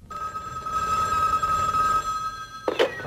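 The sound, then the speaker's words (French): A telephone bell rings in one long, steady, trilling burst for about two and a half seconds, fairly loud, then cuts off into a brief clatter, opening the 19:15 France Inter radio program Le téléphone sonne. “À 19h15 sur France Inter, le téléphone sonne.”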